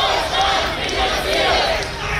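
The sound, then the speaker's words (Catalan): A large crowd of protesters chanting slogans in unison in the street outside a congress in Berlin, Germany, including "Germany finances, Israel bombs"; a dense, steady roar of many voices with rhythmic rises and falls, loud throughout with no single speaker standing out. “Finalment, han pogut entrar al Congrés 200 d'assistents i, mentrestant, la resta, des del carrer, ha fet sentir la seva veu.”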